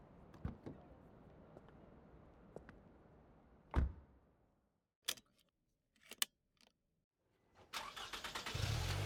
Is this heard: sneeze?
no